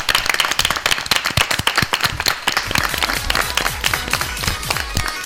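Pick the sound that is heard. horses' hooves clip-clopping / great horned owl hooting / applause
applause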